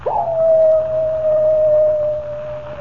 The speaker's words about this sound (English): Does the howl of the coyote really spell death for Comanche Joe?